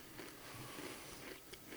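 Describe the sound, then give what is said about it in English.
Quiet crunching of someone chewing crisp beer-flavored chips from a Costco bag, a steady run of small brittle cracks and munches with no talking. “I'm going to finish chewing, and I have a recommendation.”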